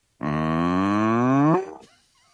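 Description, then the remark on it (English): A person imitates a cow in a field with one long, steady, resonant moo lasting over a second, rising slightly at the end before cutting off abruptly, loud. “And I remember when I was learning to do my Jerry Adams, I remembered the cow in the field and I remembered how I got the noise.”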